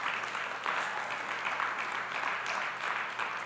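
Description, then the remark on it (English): A church audience claps steadily and densely during a service, a continuous wash of many hands applauding at an even loudness throughout, with no voices standing out. “Some of y'all are new. You're like, oh, they clap here.”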